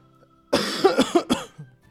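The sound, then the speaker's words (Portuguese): A quick fit of harsh coughing, four or five loud, raspy coughs in rapid succession lasting about a second, followed by a faint wheezy breath. No one speaks. “Você acha que foi muito sujeira no podcast, eu dando essas tossidas?”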